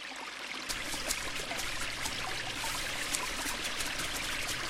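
flowing water

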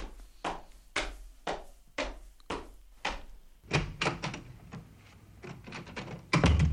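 door being opened

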